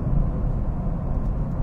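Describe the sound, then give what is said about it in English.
A small car with an eight-speed transmission drones steadily as it shifts up through its gears, a constant low rumble mixed with road noise, with no voices. “Eight speed transmission in this dinky little car.”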